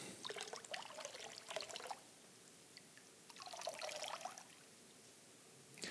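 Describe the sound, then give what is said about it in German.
Water squeezed from a sponge trickles and patters in two separate bursts, the first about two seconds long, the second shorter after a brief pause. Fairly quiet, with no talking. “So, und jetzt sagt uns das Bild, dass da kein Wasser mehr im Schwamm ist.”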